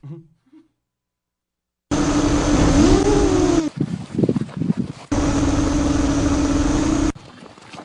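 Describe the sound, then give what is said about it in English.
A flying drone buzzes with a loud, steady motor whine and a slight pitch wobble, breaks off into a few irregular bursts, then resumes its even drone before cutting out. “So you hear the drone.”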